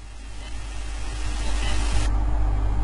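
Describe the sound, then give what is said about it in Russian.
A police motorcycle engine drones steadily with a low rumble, growing gradually louder as it approaches and passes by. No one speaks. “Ага, он был на байке, и вот результат.”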